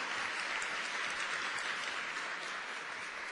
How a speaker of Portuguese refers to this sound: Queria pedir uma salva de palmas para essas pessoas que vão ficar online.